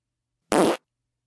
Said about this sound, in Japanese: どうしたの？そんな絶望的な顔して。変態さんが大好きなおならを心ゆくまで楽しめるんだから嬉しいでしょ？